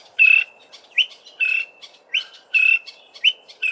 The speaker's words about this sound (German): So klingt es, wenn der Greater Honey Guide, der große Honiganzeiger, auf sich aufmerksam macht. Ganz klar, dieser Vogel möchte was. Er hat ein festes Ziel und er will, dass man ihm dahin folgt. Das klingt dann so.